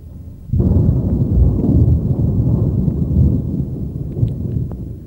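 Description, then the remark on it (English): A deep peal of thunder bursts in suddenly and keeps rolling and rumbling loudly for several seconds, heavy and low, with no voices present. “And there were peals of thunder, voices, flashes of lightning, and an earthquake.”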